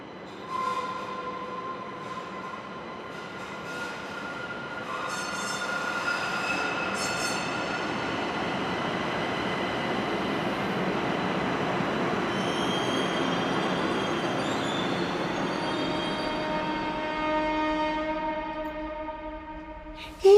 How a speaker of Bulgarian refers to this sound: По-късно тръгвам за една командировка в Казанлък и по едно време, вече влак почти тръгва, виждам някой тича към влака